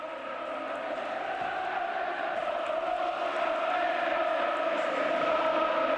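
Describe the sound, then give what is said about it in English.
A huge crowd at Wembley sings together in a sustained, roaring chant, sampled into a song, thousands of voices blending into a steady, echoing wall of sound that holds loud and constant throughout. “I never noticed that before, that they'd sampled the Wembley crowd singing.”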